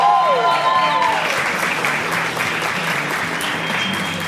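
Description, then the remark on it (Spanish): A live audience at Mundo Loco breaks into loud, sustained applause with cheering and whoops, a dense wash of clapping that holds steady throughout, with a few brief whistle-like tones near the start. “Un aplauso y una bulla a la gente en vivo en Mundo Loco.”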